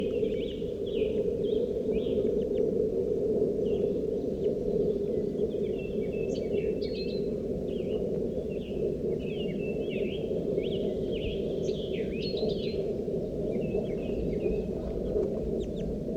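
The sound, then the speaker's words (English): A wild gray bird calls again and again in short, high chirps and clucks, scattered irregularly over a constant low rumbling background noise, with no voices present. “The wild bird is a gray bird.”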